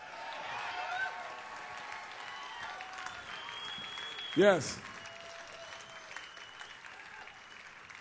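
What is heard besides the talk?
audience applause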